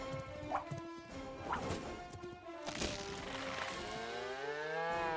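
A cow moos loudly and at length, its drawn-out bellow bending in pitch near the end, while a few sharp thuds and clattering knocks land over the first half.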